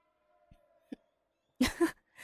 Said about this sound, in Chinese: 这么快就打呼噜了，手还流着血呢。唉，好好休息吧。